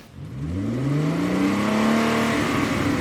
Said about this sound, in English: Was that a Mustang roaring? Indeed it was. Kevin Harvick and his Mustang have been tip-top on the tracks of NASCAR.